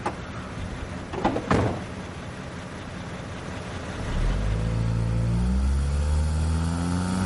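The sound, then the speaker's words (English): A car door thuds shut twice in quick succession, then an engine starts up and rumbles louder, pitch rising as the car accelerates away. No voices are heard. “Got a car here. Would you like a lift?”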